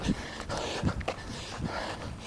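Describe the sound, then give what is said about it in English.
A dog out walking with its owner in the woods pants in quick, breathy bursts, with a few short whimpers breaking through at irregular moments over a steady outdoor background. “I've really seen a lot of dogs in here today with their owners.”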